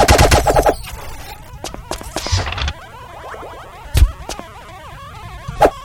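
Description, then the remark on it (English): Rapid bursts of synthetic zapping laser shots in a video game, a quick volley at the start followed by scattered sharp blasts and warbling electronic sweeps, loud with no talking. “Laser light.”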